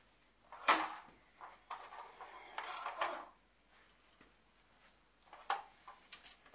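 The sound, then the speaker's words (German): A child plays with plastic toy food, hard plastic pieces clattering and knocking together in irregular bursts, a few sharp clacks standing out among rattling handling sounds, with no talking. “Die kann man nicht essen. Die sind aus Plastik.”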